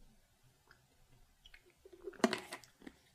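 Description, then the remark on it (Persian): Quiet mouth sounds of someone sipping water: faint clicks, then a short wet slurp and swallow toward the end, with a small click after it, and no talking. “خب من یه ذره آب بنوشم و بعد بریم سراغ این مقاله.”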